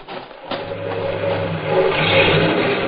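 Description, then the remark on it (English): A car engine starts up and revs, its steady hum swelling louder over a few seconds as it gets going, with no voices heard. “Ain't you even going to leave us the car?”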